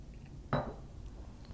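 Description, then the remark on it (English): A single sharp glassy clink rings out and fades quickly against a quiet hum with no talking, as glasses are handled at a spirits tasting before pouring. “Dump glass here. Thank you very much. When he's done, I'm gonna pour.”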